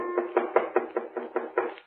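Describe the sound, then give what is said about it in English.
A quick, evenly spaced series of about eight knocks on a cabin door at about 11 o'clock at night, moderately loud, with a hollow wooden ring and no voices. “It was about 11 o'clock, and we'd started to go to bed, intending to get up as early as possible the next morning when there was a knock on the door.”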